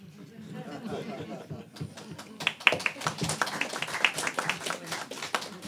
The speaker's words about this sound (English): But you shouldn't clap after everyone, right?